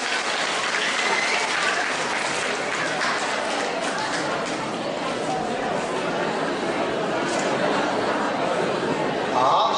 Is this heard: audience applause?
yes